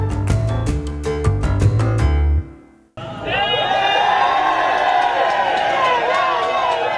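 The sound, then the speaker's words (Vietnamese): A large crowd at Tham Luang cheers and shouts loudly and continuously as news comes that 12 children and their football coach were found alive, many excited voices overlapping, following a brief burst of bright musical notes that cuts off just before the roar begins. “Những tiếng reo hò vang dội tại cửa hàng Tham Luân khi tin tức cho biết 12 đứa trẻ và huấn luyện viên túc cầu của chúng đã được tìm thấy còn sống.”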